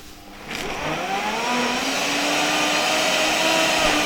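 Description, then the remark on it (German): A smoothie blender motor starts up after a brief quiet moment and ramps to a steady, loud whir, its pitch rising slightly as it chops leafy greens. No voices. “So ein Smoothie-Mixer schafft es natürlich wirklich, das maximal zu zerkleinern, das Blattgrün.”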